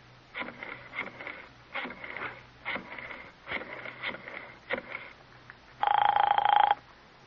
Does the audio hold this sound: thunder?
no